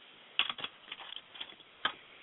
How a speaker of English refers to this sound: And I hear him typing in the background, so I will proceed. Yep, okay, he's typing.